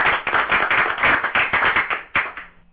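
Hands clap in a quick, steady run of loud, crisp smacks for about two seconds, ending on a final clap that fades out briefly. No one speaks.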